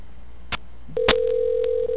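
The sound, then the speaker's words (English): A couple of sharp clicks from a telephone handset, followed by a steady, unbroken electronic tone on the line that continues to the end, clear with no one talking. “You calling his house or his work?”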